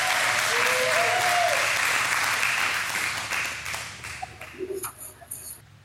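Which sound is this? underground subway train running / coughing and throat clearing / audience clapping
audience clapping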